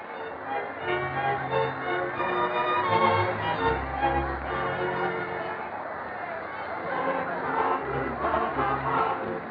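A lively crowd cheers and shouts continuously while dancing, many voices blending into a loud, excited roar with rhythmic low thumps underneath.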